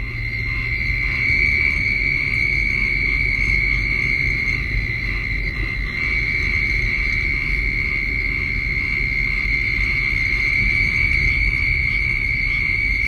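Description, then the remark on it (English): A dense chorus of 50 southern toads with a few pinewoods tree frogs and some oak toads calling in a small pond in an open area near Placida, Florida: a steady, unbroken high trilling drone, holding level throughout over a low rumbling background, with no voices. “chorus of 50 southern toads with a few pinewoods tree frogs and some oak toads calling in a small pond in an open area near Placida, Florida.”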